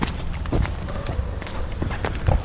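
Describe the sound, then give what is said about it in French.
Played from a sample pad, a few slow, heavy footsteps thud at an unhurried pace while small birds let out brief, high chirps in the background. “Ça, c'est quelqu'un qui marche avec des petits oiseaux.”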